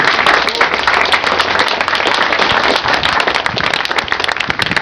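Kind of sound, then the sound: crowd, audience applause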